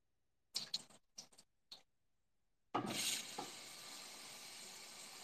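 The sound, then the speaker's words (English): A few short clicks and knocks, then a tap opens and water gushes steadily while making tea, fairly loud, continuing without a break to the end. “Did you hear the water running?”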